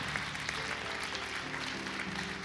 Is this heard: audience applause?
yes